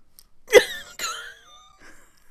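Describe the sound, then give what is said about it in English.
Two abrupt, harsh coughs, each bursting out and trailing into a rough, voiced rasp, with a short gap between them and no talking. “Cough?”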